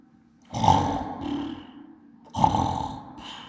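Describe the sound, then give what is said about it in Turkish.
A voice imitates snoring with two long, rough, rumbling snores, each starting loud and tapering off, separated by a short pause. “Yatıyorsun, horluyorsun.”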